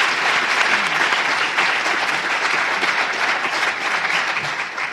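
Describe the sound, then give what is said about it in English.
An audience claps steadily for about five seconds to show how many have been homeless or are close to someone who has been homeless, a dense, crackling wash of many hands at an even, fairly loud level that thins slightly near the end. “By clapping your hands, let's just say.”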